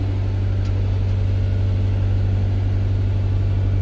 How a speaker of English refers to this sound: And I'm telling you, man, every time I look up, there's another airplane spraying by. Every single time I look up.